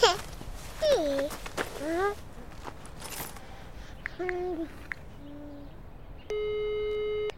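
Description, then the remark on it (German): A telephone ringing tone sounds as a mother places a call: two short electronic tone bursts, then a longer steady tone at the end, following some chirpy whistling sounds at the start. “Mami möcht mal eben telefonieren.”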